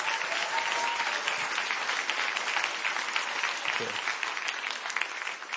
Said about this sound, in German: Und jetzt noch einen kräftigen Applaus für sie.